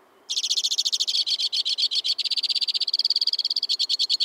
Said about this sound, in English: From the tip-top of a black spruce, a white-winged crossbill sings a rapid-fire tribute to winter. He's got good reason to sing. Even in the cold, crossbills are nesting.